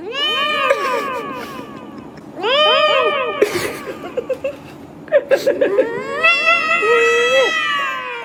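Cat meows auto-tuned into a pitch-corrected, sung melody, from the viral auto-tuned cats phenomenon, several drawn-out tuned yowls one after another, with short choppy bursts in the middle, loud with no talking.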